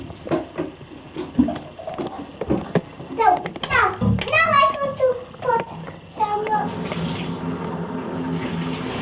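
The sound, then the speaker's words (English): Children's voices chatter and squeal, then a steady rush of bath water starts up to rinse the children and keeps running loudly through the last few seconds, with a voice still faintly heard over it. “I gotta rinse you guys off, right?”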